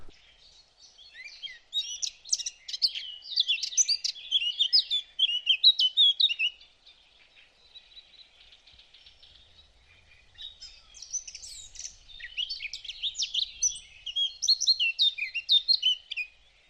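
eurasian blackcap singing

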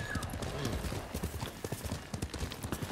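horse hooves clip-clopping

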